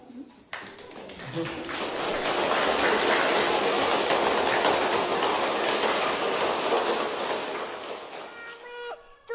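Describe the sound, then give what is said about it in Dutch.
A crowd applauds the children who made shoeboxes, in a dense, crackling wash of clapping that swells quickly, holds steady for several seconds, then tapers off, with a brief voice emerging at the very end. “Dit applaus is voor alle kinderen die een schoenendoos hebben gemaakt.”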